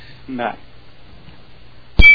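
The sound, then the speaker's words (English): At night during a storm, a single loud, sudden clang of metal striking metal rings out near the end, sharp, following a brief murmur of a voice and otherwise quiet background. “It sounded like somebody smashing metal against metal.”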